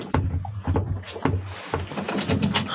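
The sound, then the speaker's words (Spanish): A door is opened with a few clunks and rattles of the handle and latch, fairly loud over a low background rumble, with no voices. “Ferrison abre.”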